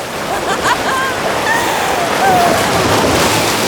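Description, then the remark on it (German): A loud, steady roar of rushing floodwater as a whole mill pond surges with tearing force into a wide field, a dense wash of noise without pause, with a few faint, thin whistling tones drifting above it. “Kaum hatten sie sich eine kleine Strecke entfernt, so erhob sich schon mit entsetzlichem Brausen der ganze Mühlenweiher und strömte mit reißender Gewalt in das weite Feld hinein.”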